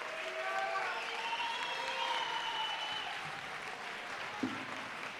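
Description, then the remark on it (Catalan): Steady applause from people connected to the Ball de Gitanes, marking 25 years since its revival, a dense, even wash of clapping with faint tonal sounds drifting over it and one brief sharp knock near the end. “Es multipliquen els aplaudiments de la gent vinculada al Ball de Gitanes, 25 anys de la seva recuperació.”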